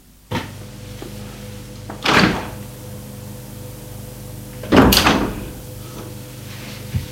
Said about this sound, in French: La porte s'est ouverte.